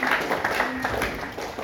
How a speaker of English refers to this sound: Hey, thanks, guys. Let's give our team a clap, hey? Awesome.